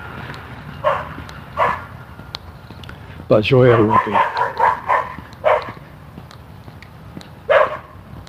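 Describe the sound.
A small Scottish terrier barks in short, sharp yaps, a handful of separate barks spaced a second or more apart, with a person speaking briefly in the middle.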